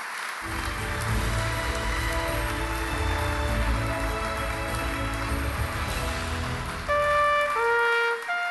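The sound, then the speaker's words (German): A large audience applauds Will Wright, creator of SimCity and The Sims, as he receives the Lara of Honor award. A steady, dense roar of clapping lasts several seconds, then a few sustained musical tones rise over the fading applause near the end. “Einen riesengroßen Applaus für Will Wright.”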